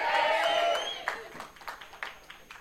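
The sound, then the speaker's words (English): An audience cheers and whoops loudly for under a second, then the noise quickly dies away into a few scattered, fading claps. “Those that didn't cheer, the commando was listening.”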